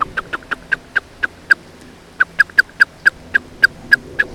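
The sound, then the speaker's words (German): A bird's excited alarm call at a cat coming closer on the ground: a rapid series of sharp, clipped notes, pausing briefly before resuming more urgently. It sounds loud, with no one talking. “Und wenn jetzt aber die Katze näher kommt und gefährlicher wird, dann klingt das erregter.”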